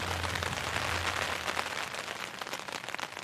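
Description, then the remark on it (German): Steady rain falls in a dense, hissing wash with fine crackling patter throughout, during a bicycle tour through Washington, holding an even, moderate level with a faint low hum in the first second. “Ich glaube, ich mache jetzt erstmal einen Kaffee und dann versuche ich ein bisschen warm zu werden und irgendwie Motivation zu finden, zusammenzupacken und dann den ganzen Tag lang durch den Regen zu radeln.”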